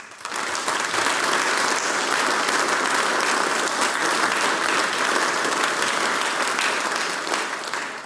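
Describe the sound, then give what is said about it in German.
An audience at the Styrian Harmonika competition claps steadily for about eight seconds for a folk music group that played polkas and waltzes, a dense, even wash of many hands that swells quickly at the start and holds strong before easing slightly at the end. “Applaus für die ….”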